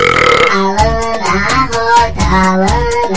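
A loud, drawn-out burp rumbles at the start, then gives way to an upbeat track with steady, punchy drum hits and a bright melody.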